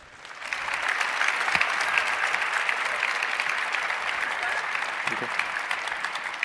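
An audience claps steadily, a dense wash of many hands that swells in within the first half second and holds at an even, fairly loud level throughout, with no voices over it.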